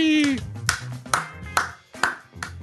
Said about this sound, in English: I've got a slow clap for you somewhere, probably.